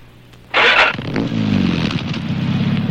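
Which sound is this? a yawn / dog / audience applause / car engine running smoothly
car engine running smoothly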